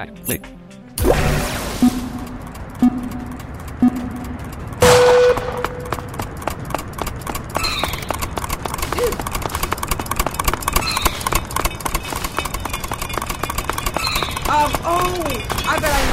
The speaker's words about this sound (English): Press the arrow key to start moving after the rifle sound.